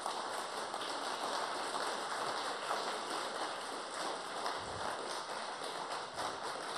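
An audience applauds three speakers after their talks, a steady, dense, even wash of many hands clapping at once for several seconds, with no voices rising above it.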